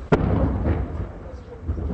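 A sharp, heavy thud of machine-gun fire cracks out early, followed by a fainter second thump, over a low, rumbling outdoor background with a muffled voice-like murmur, during fighting in the rocky hills around Marun al-Ras in southern Lebanon, with artillery fire pounding the hills.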